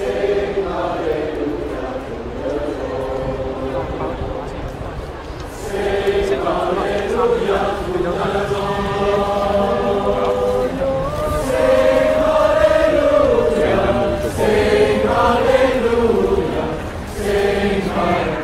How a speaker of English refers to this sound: This is the hymn. You'll recognize it from the 80s and 90s. Back in our country, we used to sing this all the time. This is a crowd of protesters singing this song, this praise song.